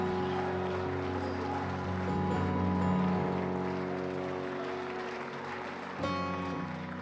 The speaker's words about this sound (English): And one more time, would you give the Lord a big hand clap of praise? And one more time, would you lift your voice and shout unto God with a voice of triumph?